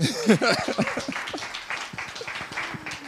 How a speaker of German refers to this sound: Wir können auch für Gott klatschen, ja.